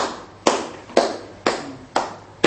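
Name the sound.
hand clapping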